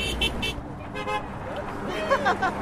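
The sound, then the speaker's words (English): The driver of a passing Tesla honks the car horn a few short times amid steady road traffic noise, with people talking in the background. “I was a Tesla driver who just honked at us.”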